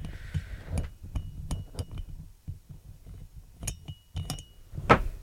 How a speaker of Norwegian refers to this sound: Mistet du igjen? Ja. Ja. Igjen? Tredje gang tar han mistet samme skrue.